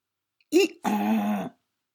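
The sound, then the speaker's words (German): A donkey's bray, probably imitated by a human voice, in two parts: a short, rising-and-falling first note, then a longer, harsh, buzzing tone held for about half a second before it cuts off. “Der Esel,”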